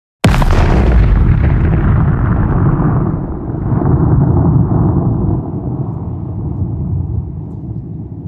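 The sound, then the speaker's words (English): A single powerful explosion, recorded in the Alps, bursts out suddenly, then rolls and rumbles for several seconds as a deep, sustained echo, with no voices present. “And here's actually one of those examples of the explosions that you recorded in the Alps.”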